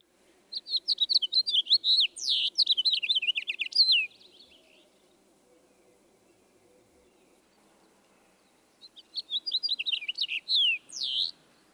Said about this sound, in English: Let's hear these two finches again. First, the house finch with its raspy sounding notes.